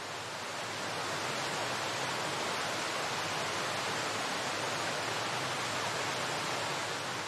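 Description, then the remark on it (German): The Tamul waterfall rushes in a steady, dense roar that fills the whole stretch at an even, moderately loud level, with no voices or other sounds on top. “Und spüre nochmal mit jeder Faser deines Körpers die Kraft des Wasserfalls.”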